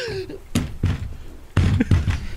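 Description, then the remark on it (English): A body flops and thrashes around in a chair, making a series of heavy, irregular thumps and bumps, with a few muffled knocks and rustles between them. “That was you flopping around in your chair.”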